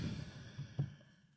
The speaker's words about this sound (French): Vous allez prendre une grande respiration.